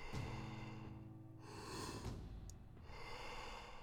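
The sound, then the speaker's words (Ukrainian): Slow, deep breaths in a guided breathing exercise, a long airy inhale followed by a breathy exhale, with a low tonal hum beneath at the start and no talking. “Вдихай спокій, видихай стрес.”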